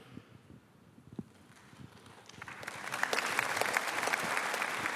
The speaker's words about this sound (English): That was my mother clapping up there, so. Do you think they were clapping for you or for righteousness? For the righteousness.